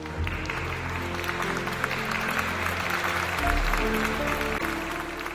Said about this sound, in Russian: Когда он закончил говорить, то раздались громкие аплодисменты.